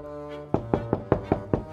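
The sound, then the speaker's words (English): Six firm, evenly spaced knocks on a door, fairly loud, following a low steady hum in the background. “He knocked on the door and sang, little pig, let me in.”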